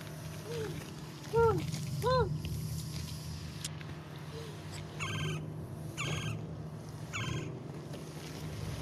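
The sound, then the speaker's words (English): A bird gives a few rising, wailing cries, then several sharper, buzzy calls, all over a steady low rumble like a boat engine. “You can hear, this is Annie, by the way, who's really weeping, from what I understand.”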